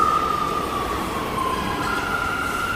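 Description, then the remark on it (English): A New York City subway train rumbles steadily, with a loud, continuous roar and a high metallic whine from the wheels riding over the noise throughout. No one speaks. “New York City subway riders love Issues Etc.”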